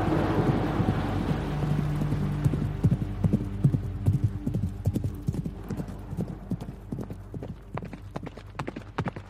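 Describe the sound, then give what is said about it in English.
Horses' hooves clip-clop steadily, a dense, overlapping rhythm of sharp knocks over a low rumble of wind or movement, with no voices. “Rain fell on them, horses trampled down on them.”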